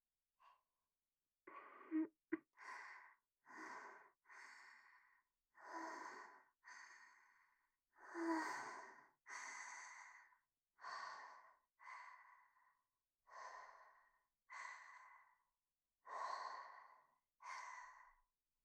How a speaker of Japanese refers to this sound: 吐息、ちゃんと感じられてるかな？どう？